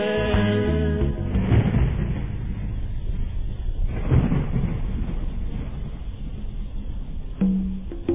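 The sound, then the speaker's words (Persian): Deep, rolling thunder rumbles steadily throughout, swelling into two heavier booming peaks before trailing on as a low, continuous roar with no voices. “بارون گفت با رعد و برقم میسوزونمش تا ریشه، تا که آثاری نمونه دیگه از درخت و بیشه.”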